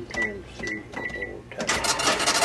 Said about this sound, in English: cash register hasn't been ringing enough lately.